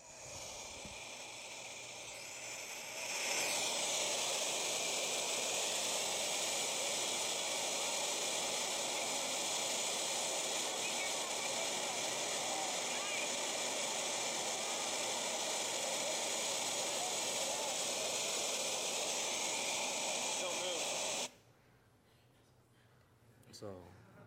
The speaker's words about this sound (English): This is the real footage of Jordan River. I find on YouTube.